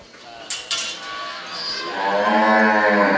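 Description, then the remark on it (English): A couple of sharp metallic clanks, then a cow lets out a long, loud moo that swells and holds, over a faint background of farm ambience, on a dairy farm in Venezuela in the late afternoon at milking time. “By now, it's late afternoon and time to milk the cows.”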